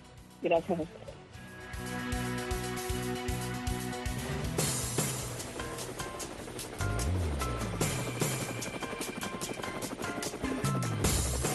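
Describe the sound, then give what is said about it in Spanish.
A helicopter's rotor blades chop in a steady, rapid rhythm, loud, with a droning engine hum and what sounds like a swell of background music. “Bueno, ahí están las aspas del helicóptero.”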